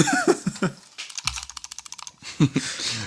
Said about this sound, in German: Ohne, dass du jetzt im Hintergrund früher umeinander klickst. Du sollst wirklich mal raten. Was? Lass mich klicken.